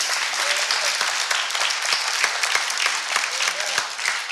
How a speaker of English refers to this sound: That would be a good place to clap your hands.